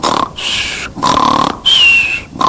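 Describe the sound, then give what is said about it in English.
Prabhupada imitates the snoring of sleeping yogis in a guru's yoga class in New York with four loud, rhythmic rasping snorts, each with a whistling tone, separated by brief pauses. The sound is prominent, with no talking. “And Prabhupada himself, as you must be knowing, he listens all the time, Prabhupada imitates the snoring of the sleeping yogis in the guru's class.”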